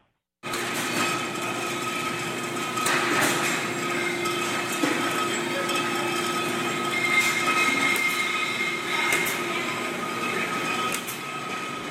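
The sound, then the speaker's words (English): Empty glass bottles rattle along a bottling line where they are washed out and filled with tequila: a steady mechanical whir with bright humming tones, broken by sharp bursts of clinking glass every few seconds; a machine squeezing metal caps into place makes a puffing air sound. No one speaks. “That's the sound of empty bottles going down a bottling line where they're washed out and filled with tequila.”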